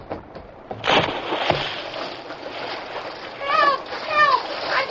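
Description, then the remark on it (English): Steady splashing and churning water as a man swims against a strong stream current toward boys in the water, begins after a moment and continues throughout, with brief strained vocal calls rising over the water near the end. “Although the Lone Ranger had entered the stream above the position of the boys in the water, he had to fight the strong current”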